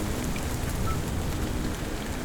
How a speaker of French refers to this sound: Est-ce bien la fin de l'orage? Ou le début d'une nuit agitée?